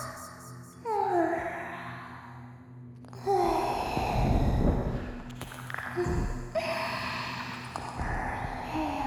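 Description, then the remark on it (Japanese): Wet licking and mouth sounds of someone licking an ear mingle with soft, breathy sighs and exhales, coming in slow waves right against the ear, intimate and unhurried, with no speech. “耳を舐められる。水音、唇の感触、吐息、鼓膜に響いて頭の中を音に侵される。”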